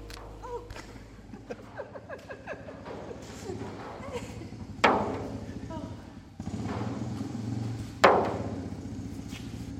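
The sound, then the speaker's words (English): In the morning, water drops strike the gliders and roof: scattered light ticks and taps over a steady wash of noise, with two louder, sharp hollow knocks that ring briefly before fading, and faint voices underneath. “When I came in here this morning, this is the water hitting the gliders and also on the roof.”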